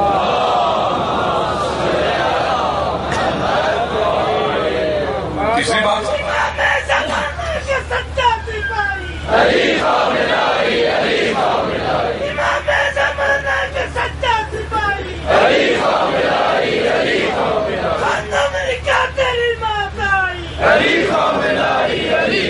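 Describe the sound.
A large crowd chants slogans loudly in unison, the chant surging in repeated bursts every few seconds over a constant roar of voices throughout.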